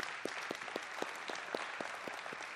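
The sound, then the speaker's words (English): The ECC church audience applauds together in honor of their leaders' efforts, a dense, steady wash of many hands clapping with a few sharper individual claps standing out, sustained at an even level with no talking. “Yeah, we all carry that differently, but ECC family, could we just in honor applaud the efforts?”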